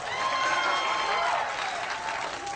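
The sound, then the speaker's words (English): A large audience claps steadily, a dense wash of many hands that stays loud and even throughout, with a few faint crowd voices blended in. “By your applause, how many of you knew that it was that?”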